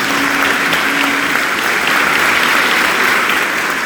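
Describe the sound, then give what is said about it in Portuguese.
Sustained, warm applause from a large church parish audience greeting a priest, dense steady clapping at a constant loud level for a few seconds. “Então, uma forma de gratidão, queremos saudá-lo com uma grande e calorosa salva de palmas por isso.”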